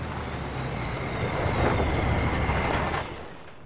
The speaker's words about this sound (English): The army lorry drives up the rough track to the cluster of tents and stops.